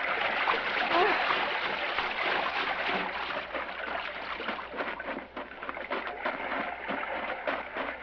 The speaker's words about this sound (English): It was quiet now, deserted. Only the two of them in the gently rolling sea.